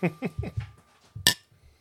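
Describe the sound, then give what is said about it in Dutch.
Two beer glasses meet in a toast in a single bright, ringing clink, fairly loud, after a few seconds of soft vocal murmurs and low rustling. “Dat klinkt echt niet als ze vol zitten.”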